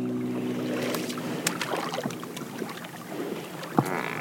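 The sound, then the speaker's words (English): A motorboat speeds across marsh water toward the town of Chubaish, carrying fresh water buffalo milk to sell, its low engine hum blending with steady rushing spray and wind, punctuated by occasional splashes and knocks against the hull. “And then speed by boat to the nearest town of Chubaish to sell the fresh milk.”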